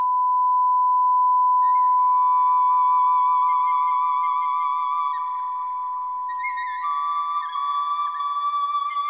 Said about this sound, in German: Einen Klang, der gar keine Obertöne hat, gibt es in der Natur nicht. Ein solcher Sinuston lässt sich nur elektronisch herstellen.